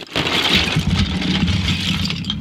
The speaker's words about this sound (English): For those of you just listening, I've just upended a big old bucket full of wooden trains and train tracks here, and we're gonna talk about these fantastic toys.